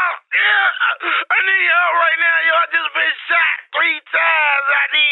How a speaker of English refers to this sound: First of all, I'm gonna need you to bring it down a little bit, screaming all in my ear like you crazy or something. What's wrong with you?